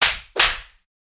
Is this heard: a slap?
yes